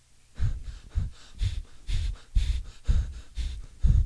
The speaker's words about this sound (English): Black guy breathing heavy. Could you just, it's kind of a silent part. Okay, now you're just breathing heavy through your nose.